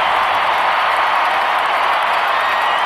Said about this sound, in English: A round of applause for the entire team, the 1991 world champion Minnesota Twins. Give a listen as the crowd gives something back to the team that brought them a world championship.